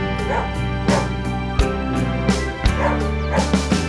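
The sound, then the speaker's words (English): Several short barks and yips from different dogs in a park pop out at irregular intervals, fairly loud, over a steady tonal musical backing that continues throughout. “Different dogs in the park, yeah.”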